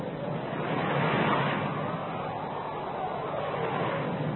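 A rough sea in a storm roars steadily and loudly as a boat battles it, waves churning without pause in a dense, unbroken wash of surf, with a gusty windy edge and no clear individual crashes.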